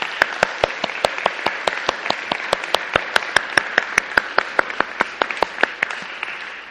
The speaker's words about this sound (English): Instead, we want to say a huge thank you to those who are standing and those who are standing down, so let's give them a huge round of applause.